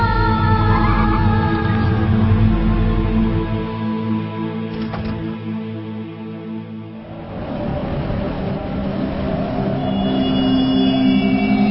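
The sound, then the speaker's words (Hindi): A car engine runs steadily with a deep rumble, its pitch shifting as it revs, eases off briefly, then picks up again while driving. Loud, with no voices. “गाड़ी रुक।”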